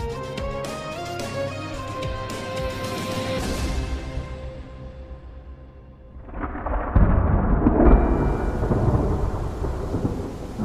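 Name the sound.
heavy rain with thunder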